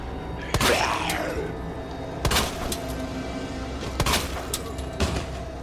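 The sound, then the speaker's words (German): Several sharp video game pistol shots ring out at irregular intervals, loud, each with a brief crack and short tail, as a ten-round pistol is fired at a zombie, over a low background of game ambience. “Zehn Schuss und wir feuern auf den Zombie.”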